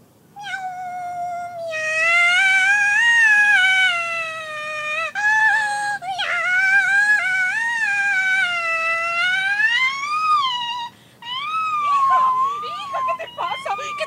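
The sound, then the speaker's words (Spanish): A cat meows in a long, loud, drawn-out wail, its pitch rising and falling almost without pause, then breaks into a few shorter, choppy yowls at the end. “¿Y esos maullidos?”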